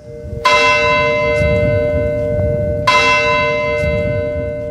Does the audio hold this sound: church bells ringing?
yes